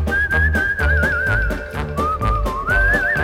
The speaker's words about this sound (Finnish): Siellä kaikki viheltävät näin.